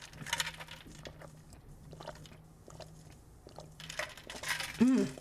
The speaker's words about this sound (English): I'm gonna take another sip of water here, y'all. I'm sorry. I'm a little thirsty today.